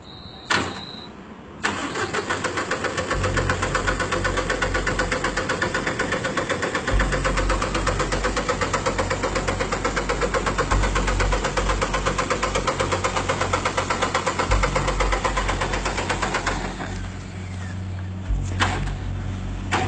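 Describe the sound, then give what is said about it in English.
A large bus engine cranks and catches, then runs with a loud, steady, rumbling idle for about fifteen seconds before cutting off, with a couple of sharp clicks near the end. “It was as if there was someone or something trying to turn on the bus engine.”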